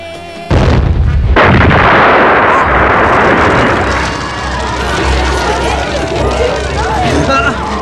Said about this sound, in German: Mein Porsche! Oh. Er ist explodiert! Er brennt! Die Explosion sorgte für gehörige Aufregung. Der Porsche brannte aus.